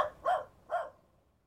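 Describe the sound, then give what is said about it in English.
Two sharp dog barks ring out about half a second apart, moderately loud, with nothing else but a faint background hush. “All I did was find his dog.”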